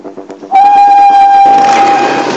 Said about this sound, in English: when you hear the whistle blow, you go!